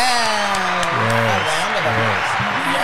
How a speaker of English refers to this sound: Let's get a hand of applause for that. Yeah.